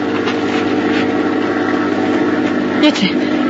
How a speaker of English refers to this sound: Yes, it's a plane. A plane.